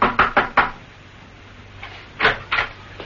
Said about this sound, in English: He parked outside, and slipping his overcoat over the torn dinner jacket, he approached a door which read, The QQF Inc. Knock and enter. Steed did so.